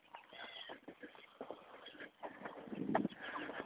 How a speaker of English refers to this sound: Grackles. Lots of grackles. A few blackbirds too, apparently.